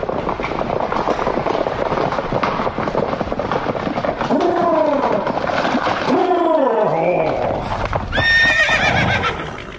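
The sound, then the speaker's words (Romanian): Horses whinny loudly several times over a steady, busy clatter of hooves and rolling carriage noise, with a final high neigh near the end. A horse-drawn carriage (birjă) pulled by two pairs of horses is travelling from Bucharest to Ploiești. “E, să fi poftit întrepidul confrate să mă facă să aflu cel din tâi atunci când de la București până la Ploiești se călătorea în birjă de Herasca, la care erau înhămate 2 perechi de cai.”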